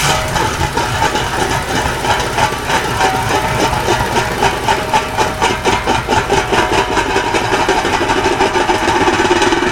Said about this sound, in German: Oh, da müssen wir den Trecker ausmachen. Das ist doch ein Diesel. Ich werde den mal schnell ausmachen.